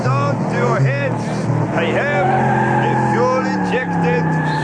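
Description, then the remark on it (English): The loud engine of the Popemobile roars and revs continuously as it attempts to jump 27 double-decker buses, its pitch climbing and dropping in sweeping surges like a race car, with squealing, skidding tires mixed into the din. “And to celebrate my reunion with my much-beloved Pope-mobile, I will now attempt to break my own record by jumping 27 double-decker buses.”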